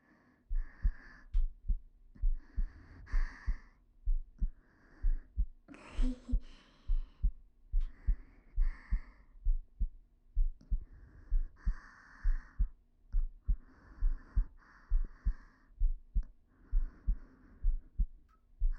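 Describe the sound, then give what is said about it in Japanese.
A steady heartbeat thumps in a regular rhythm of roughly eighty beats a minute, with soft rustling, breathy noise drifting over it in intermittent bursts. “そしたらわかると思うんです、そのドキドキが。”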